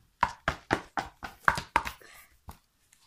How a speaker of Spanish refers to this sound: Y los dos se encaminaron hacia la casa del conejito y llamaron a la puerta.